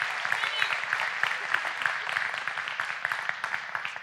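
audience applause

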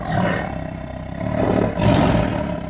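big cat roaring

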